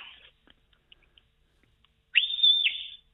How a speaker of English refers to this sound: Oh, I've the plastic whistle around my neck here. Give us a lash of it there.